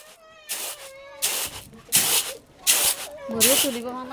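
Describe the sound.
Rice being sifted by a woman in a bamboo shelter in a Rohingya refugee camp: a series of loud, rhythmic swishing bursts, about five shakes, with high-pitched voices sounding between and over them.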